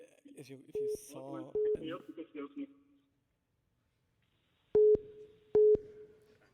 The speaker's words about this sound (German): Man hört ein Freizeichen.